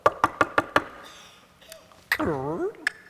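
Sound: knocking on a door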